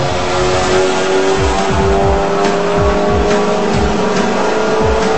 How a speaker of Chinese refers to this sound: 一开始的时候呀，小熊的汽车比大灰狼的摩托车落后了一点儿，可是没开多一会儿，他就赶上来了，跟大灰狼齐头并进。他们都拿出了自己最好的驾驶技术，把车开得像飞一样快。